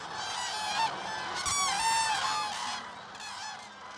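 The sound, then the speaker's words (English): A flock of migratory common cranes in Israel calls steadily, many overlapping bugling, trumpet-like cries rising and falling together at moderate loudness, with no voices present. “The cranes, like all migratory birds, will face a lot of hazards on their way to their breeding grounds, including hunters.”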